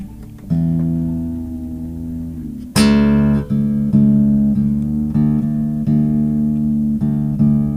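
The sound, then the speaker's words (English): A guitar string rings while its pitch slowly bends lower as it's tuned down, followed by a bright strum and several repeated plucked notes checking the tuning, fairly loud with no talking. “I got a tune down for this one.”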